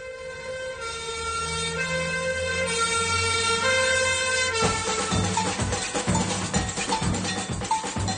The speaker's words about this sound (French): En pleine nuit, une sirène appelle au feu tous les pompiers. Et tout Rio qui se réveille voit brûler l'usine de café.